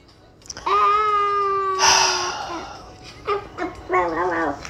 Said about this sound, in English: Cat, it's a demon cat.